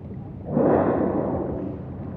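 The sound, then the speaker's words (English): A whale blowing through its blowhole, its plume 10 feet high: a sudden, loud, breathy rush of air that bursts in abruptly, then hisses on steadily as a broad, rough exhalation, easing off slightly toward the end. “And the blowing of the whale, when it comes, is an ancient sound.”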